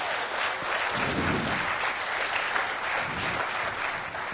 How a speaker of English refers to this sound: And by the way, organizations like EFF and EPIC really deserve our support, and they actually deserve a round of applause.